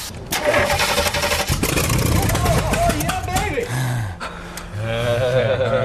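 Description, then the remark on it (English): An engine is cranked over and over, churning loudly in a rapid, uneven rhythm without catching, then sputtering into low, rough grumbles that fade and return. “The mules have made quite a comeback, but if that engine doesn't start, they're off to the knacker's yard.”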